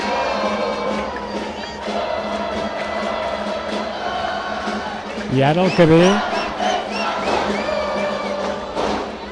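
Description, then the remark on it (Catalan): A festa major crowd at the head of the town, in front of the pharmacy, as the Cabeçuts pass through, fills the air with steady chatter, then bursts into a loud, rising cheer with whoops midway before settling back. A voice speaks briefly over the noise. “Cap a l'Hort de Can Fals se'n van els Cabeçuts, travessant una munió de gent complena al cap de la vila, al davant de la farmàcia.”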